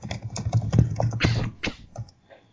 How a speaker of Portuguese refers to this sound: E parem de martelar o teclado, faz favor.